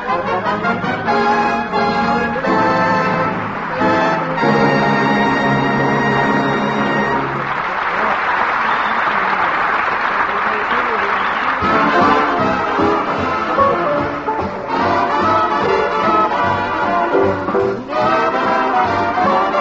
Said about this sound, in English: that applause meant that our celebrity club knows a fine performance when it hears one.